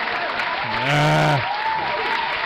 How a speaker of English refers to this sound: I can't stop the applause.